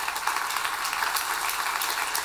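Audience applause for student panelists at the end of the first half of the Big Q, a discussion on race and youth at Iron City in Birmingham: a dense, steady wash of many hands clapping, bright and hissy, holding an even loudness throughout with no voices.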